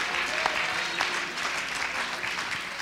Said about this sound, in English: Oh, would you clap your hands as if to say, I've been there. I've been there.